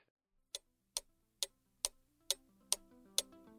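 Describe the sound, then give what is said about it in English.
A wall clock ticks steadily, about eight crisp, evenly spaced ticks, with a soft tonal hum or music rising faintly underneath in the second half. “Well, I see by the clock on the wall, there's a dead fly.”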